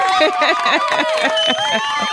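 A loud studio audience cheers and whoops without pause for Michael B. Jordan, a dense wash of many overlapping voices with high, shrill shouts rising above the din.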